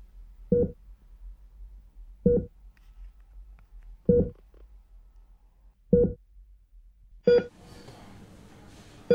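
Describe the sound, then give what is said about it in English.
Electronic beeping: a steady single-tone beep repeats about every two seconds, five or six times, clear against a quiet low hum; near the end a louder, busier noise rises beneath the beeps. “Could you please turn off that odd beeping noise?”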